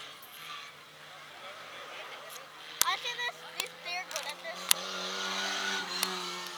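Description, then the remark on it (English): The transmission of a black race car, numbered 00, whines as it drives in reverse along the back straightaway to finish the race: a steady mechanical tone that swells and rises over engine rumble, with sharp clicks and pops and faint voices in the background. “You can hear his transmission whining.”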